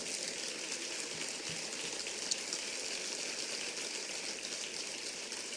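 A crowd claps for an honoree and his wife in a steady, dense wash of applause that holds at an even level for about five seconds, with no voices standing out.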